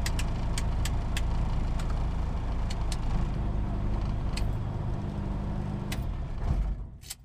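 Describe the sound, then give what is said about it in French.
A loud, steady aircraft engine idles after landing with a low droning rumble, broken by a few sharp clicks as everything is switched off, then the engine is turned off, winding down and cutting out in the final second, leaving near silence. “Donc là, on va tout couper et puis après, on va éteindre le moteur.”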